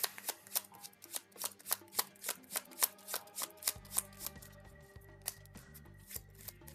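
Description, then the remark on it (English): Crisp card-shuffling snaps during a card game repeat in a steady rhythm, roughly three per second, while a low, looping musical backing fades in halfway through. Nobody speaks. “We are back into the shuffling game of Doom.”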